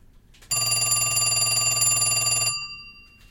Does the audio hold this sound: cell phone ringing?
yes